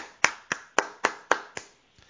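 A lone pair of hands claps six times in a steady, even rhythm, sharp and crisp, with a faint trailing tap at the end, standing in for applause to welcome a guest author. No voices.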